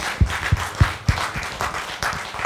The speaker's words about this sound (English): Come on, clap your hands to the Lord and give him thanks.